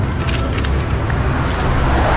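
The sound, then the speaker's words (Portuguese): Steady road traffic noise: a constant low engine rumble from passing vehicles, with a few brief hissy bursts near the start. No one speaks. “Tá no trânsito?”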